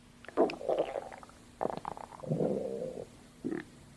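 A stomach growls from hunger after skipping breakfast, in several gurgling, bubbling bursts with short pauses between them, the longest rumble stretching out in the middle, moderately loud with no one talking.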